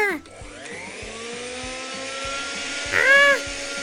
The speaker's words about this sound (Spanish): ¿Y qué es eso que lleva en la mano? ¡Ay, no! ¡Dijo que hoy era día de limpieza! ¡Mi mamá trae la aspiradora!